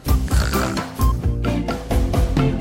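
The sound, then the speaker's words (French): Loud, rhythmic pig snoring from a pig sleeping in straw, a string of grunting snorts roughly every half second, set against a steady musical backing. “Je pourrais dormir un peu. Et ronfler à qui mieux mieux.”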